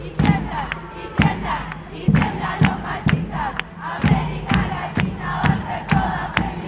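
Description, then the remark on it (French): A feminist protest crowd of about 200 to 300 people, mostly women, chants slogans in unison on a downtown main street over steady, evenly spaced drumbeats that punch through the loud, continuous roar of voices. “Et tout le long comme ça, des petits chants avec des tambours.”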